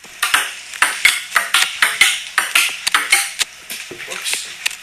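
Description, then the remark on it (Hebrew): A ping pong ball clicks back and forth in a steady rally, sharp bright taps at a quick, slightly uneven rhythm, some hits louder than others, with faint murmuring voices in the background. “אני נותן לאנשים לשמוע קצת לשחק פינפונג.”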